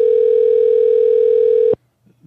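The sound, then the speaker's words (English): A phone ringback tone on an unanswered call to a Google Voice number: one loud, steady, buzzy hum that holds for almost two seconds, then cuts off abruptly, leaving near-silence with a few faint low murmurs. “And we're calling about the games and he's not going to answer the fucking phone.”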